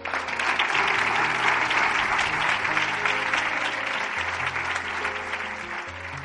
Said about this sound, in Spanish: Nos sumamos a ese aplauso.